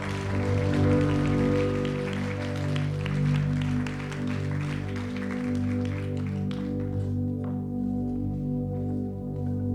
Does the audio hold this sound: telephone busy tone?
no